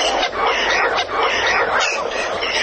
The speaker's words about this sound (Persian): این آخرش پرنده های عزیزم سلام کردن بهمون، ما هم علیک سلام میگیم بهشون، ازشون خواهش میکنیم این همه راه از سیبری و نمیدونم جاهای خیلی خیلی سرد اومدن، خب بمونن همونجا دیگه.